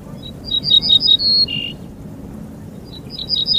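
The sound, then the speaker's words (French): An ortolan bunting, a small sparrow-like countryside passerine, sings a clear, ringing phrase of repeated high notes ending in a buzzier note, then begins again after a short pause, over a low background rumble. “Cet oiseau que vous entendez là est un bruant ortolan, un petit passereau des campagnes aux faux airs de moineaux, un grand chanteur, l'ortolan, malheureusement moins connu pour ses talents d'artiste que pour sa chair, très réputée”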